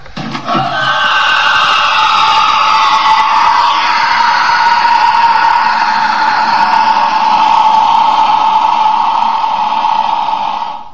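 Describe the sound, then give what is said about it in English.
Actor Anthony Head lets out a long, harsh, high-pitched creature-like screech on a stairwell on set, raw and without special effects, used as the basis for the Krillitane creature sound. It is held loud and steady for about eleven seconds with no other sounds. “So that's actually Anthony Head without any special effects just screaming his head off.”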